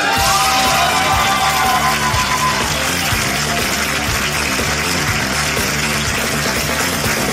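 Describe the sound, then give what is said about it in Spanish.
A large crowd, the audience of the improvised comedy show Hablando Huevadas in Peru, cheers and applauds loudly and continuously, with shouts and whoops rising over dense, steady clapping that stays at full volume throughout. “Y que siga el aplauso, que siga, porque esto es papelito del público por Hablando Huevadas.”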